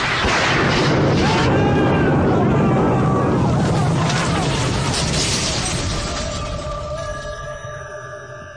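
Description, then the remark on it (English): Lightning strikes a boat carrying a large copper ball during a thunderstorm and the boat explodes: a loud, roaring explosion with a crashing burst that rumbles on for several seconds, then slowly fades as sustained ringing tones take over near the end. “The lightning struck, the boat exploded”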